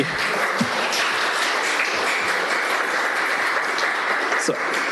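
An audience at a city council meeting in Santa Rosa applauds steadily for several seconds in support of translation by default, a dense, even wash of clapping that holds at a constant level from start to finish.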